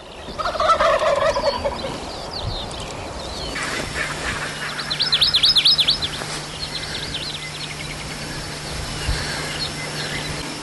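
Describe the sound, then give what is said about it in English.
Wild turkeys gobble in rapid, rattling bursts, one loud call up front and another around the middle, with fainter gobbles scattered through an outdoor night ambience. No one speaks. “It's too dark for video, too dark to see the turkeys, but you can hear them.”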